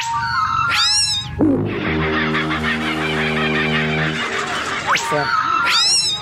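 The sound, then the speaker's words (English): Several Australian kookaburras call together in a loud, chaotic chorus of cackling, rising and falling hoots. Their rapid, rhythmic laughing overlaps continuously for about six seconds, with no talking. “You get five or six kookaburras in a tree and it is chaos.”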